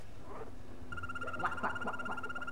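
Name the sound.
frog croaking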